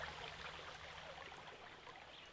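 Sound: flowing river water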